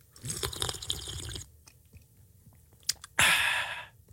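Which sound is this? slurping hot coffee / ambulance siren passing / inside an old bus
slurping hot coffee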